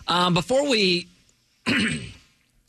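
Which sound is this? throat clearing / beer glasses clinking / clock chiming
throat clearing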